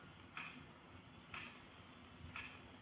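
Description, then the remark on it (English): A clock ticks slowly and steadily, three soft, evenly spaced ticks about a second apart, set against a quiet, hushed room with a faint low hum. “I could hear the clock ticking away the seconds.”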